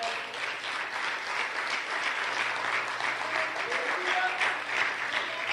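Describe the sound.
An audience applauds God, clapping steadily in a dense, sustained wash of applause, with a few voices calling out faintly underneath, holding a fairly even loudness throughout.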